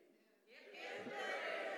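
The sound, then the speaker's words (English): After a brief quiet moment, an audience bursts into cheering, a dense wash of many voices that swells quickly and stays loud and sustained to the end. “Because that's how God, those are the cheers of Jesus.”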